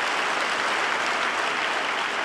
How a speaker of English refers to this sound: We need to add our applause.